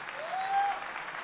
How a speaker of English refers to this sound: Clap them for the Lord.